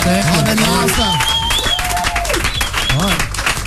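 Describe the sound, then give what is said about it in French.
Studio applause at Virgin Radio for visiting band guests after an interview, a dense, steady wash of clapping lasting several seconds, loud throughout, with voices calling and cheering over it. “On peut les applaudir quand même.”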